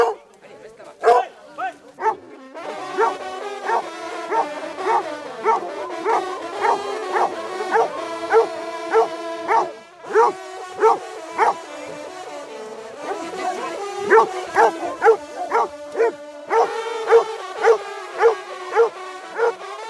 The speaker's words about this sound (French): Ah, là, il y a un chien qui a enlevé la peau du chevreuil et en dessous, il y a le corps du chevreuil ensanglanté. Et les chiens essayent d'attraper le corps ensanglanté.